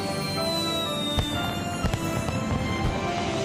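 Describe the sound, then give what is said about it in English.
Fireworks burst in a few sharp, crackling bangs, with two or three loud pops spaced apart over a steady, humming bed of sustained tones. “Fireworks!”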